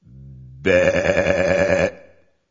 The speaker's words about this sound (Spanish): Además, del total de ovejas que emitían un 12% también podía emitir y las llamó ovejas de balido mixto, ambivalentes o ambivalantes.